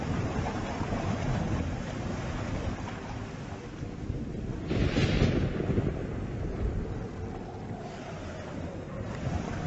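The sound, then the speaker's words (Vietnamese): A steady, roaring rush of fast-flowing water from the River Tro fills the whole stretch, loud, with a brief surge of hissing spray about halfway through before settling back into the constant churn. “Nước Tro đủ dạng chảy xiết, tiếng ầm ầm tạo cảm giác rần rần.”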